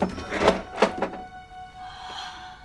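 A door under a staircase swings open: three quick wooden clunks of the latch and handle, followed by a faint, steady creak that lingers and fades out.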